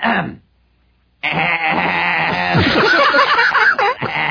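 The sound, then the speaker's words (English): A person imitates a pig: a brief grunt, a short pause, then a loud, raspy, wavering call held for about three seconds, with no talking. “I'll make the sound of a barnyard animal, and you all try to guess what it is.”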